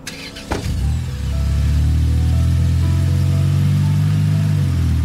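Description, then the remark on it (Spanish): A brief clunk, then a car engine starts and settles into a loud, steady low rumble that continues for several seconds, with no one speaking. “¿Nos vamos a pie? No, súbete al carro.”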